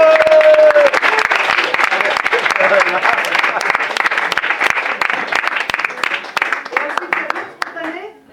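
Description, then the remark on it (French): An audience claps loudly and steadily for about eight seconds between segments of the show Les Goguetiers spontanés, a dense patter of many hands with a brief high whistle at the start, before the applause thins out and fades. “Et on applaudit tous un petit monde avec nous.”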